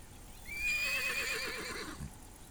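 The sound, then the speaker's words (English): Dolly, Farmer Dray's horse, gives a single loud, quavering whinny lasting a little over a second, with its trembling pitch rising and falling before fading out. “"A horse is no good. We need an engine," says the teacher.”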